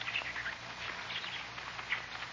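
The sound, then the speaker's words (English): Children's voices imitate monkeys chattering in the dark night from a thicket near a campsite on the Zamboanga Peninsula in Mindanao: a busy overlapping stream of shrill chattering and squeaky calls that runs steadily without pause, with a few sharper yelps poking out. “Do you hear those monkeys chattering their heads off in the dark night? Well, they're not monkeys at all.”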